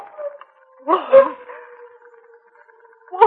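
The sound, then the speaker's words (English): Wolves howling in a long, drawn-out, steady wail that carries through the whole stretch, with rougher overlapping cries swelling in near the middle and again at the very end. “Wolves! Wolves!”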